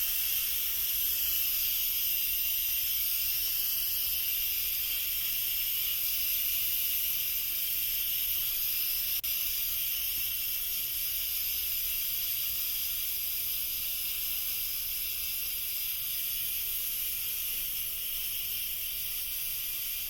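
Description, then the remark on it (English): A steady, loud hiss of steam escaping from a giant soda pours out continuously for the whole stretch, bright and airy with a faint low rumble beneath, no voices present. “That's a lot of steam.”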